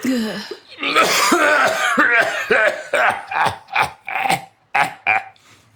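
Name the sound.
wheezing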